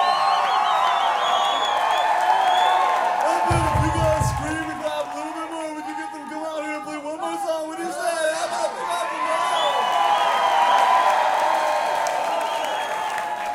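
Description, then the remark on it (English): A large crowd screams and cheers loudly and continuously for an encore, with shouts and whoops over a steady roar of applause, dipping briefly midway before swelling again. “It was like the whole like, if you scream a little bit louder, maybe you can get them back on stage.”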